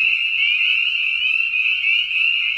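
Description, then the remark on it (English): A dense chorus of spring peeper frogs, their shrill high peeps overlapping into a steady, loud, unbroken ringing with no pauses and no voices. “Their call sounds like a sharp, piercing bird-like peep, repeated rapidly about once per second.”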